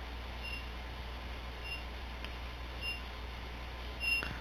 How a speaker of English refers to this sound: Who's, like, whistling? I don't know what that is. Oh, that's dryer.